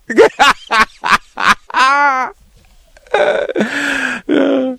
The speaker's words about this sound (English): What do you feel is your most egregious transgression in these visits? Is it the yawning coming on?